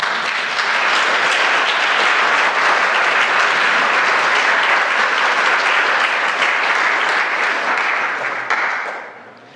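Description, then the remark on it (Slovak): Sustained applause from a sizable church audience for the children and teachers from Narnia for their service, a dense steady roar of many hands clapping, holding level for about nine seconds before tapering off at the end. “Bolo to perfektné a myslím, že môžeme ešte zatleskať.”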